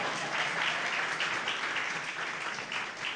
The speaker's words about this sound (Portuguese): Pode sentar, filho, por favor. Palmas para o meu filho, por favor.